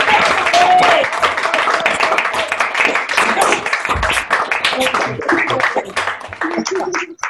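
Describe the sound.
A group of people on an online call come off mute to clap for a speaker, a dense, steady patter of overlapping hand claps, with scattered voices and cheers mixed in throughout.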